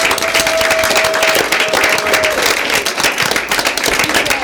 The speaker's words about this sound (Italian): E allora io vi incorono ufficialmente nuovi speaker e DJ di Radio Dynamo. Un applauso.